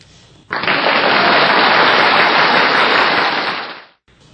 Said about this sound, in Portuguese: Todos bateram palmas ao mesmo tempo, então a dica vai para todos.